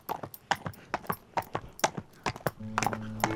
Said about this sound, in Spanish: Viene de a caballo, parando en cada lugar, en cada persona, al azar del camino.